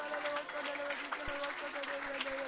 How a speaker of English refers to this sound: All right, clap your hands and love the Lord.